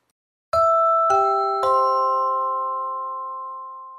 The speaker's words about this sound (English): Well, the ringing of the bell is a conditioned stimulus.